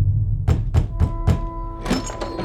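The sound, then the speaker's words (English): Four firm, deep knocks on the door of a large, well-adorned house in a steady, evenly spaced rhythm, each a dull thud, followed by a brief rougher rattling sound. “a rather foolish young man named Hans was standing at the doorstep of a large and well-adorned house, gathering the courage to knock.”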